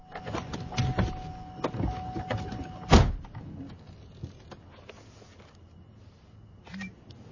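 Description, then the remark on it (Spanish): At night in a parking lot, someone climbs into a car: rustling movement and small knocks, then a solid door thud about halfway through, followed by quieter shuffling inside the cabin. “Monta en el coche.”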